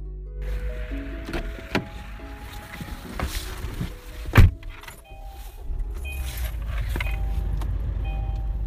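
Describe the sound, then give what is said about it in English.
Steady low engine and road rumble fill the cabin of a moving Uber ride-hail car while another driver cuts it off, with scattered clicks, rattles and a sharp knock near the middle; no one speaks. “so in your car, in the Uber drive, as someone cuts us off, actually, that's not even made up.”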